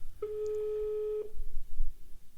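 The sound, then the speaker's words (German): A single steady ringback tone on a phone line as a number is called late on a Sunday to see if it still exists, a flat electronic beep lasting about a second, then background hiss and low rumble. “Es klingelt.”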